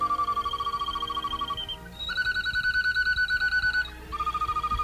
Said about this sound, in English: Birds warbling.